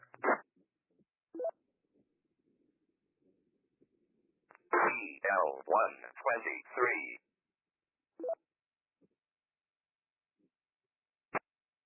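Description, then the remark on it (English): During ham radio net check-ins, someone keys up a transmitter: a few short static clicks, then a loud burst of garbled, distorted transmission for a couple of seconds, followed by scattered faint pops and a sharp final click. “Okay, sounds like somebody keyed up there.”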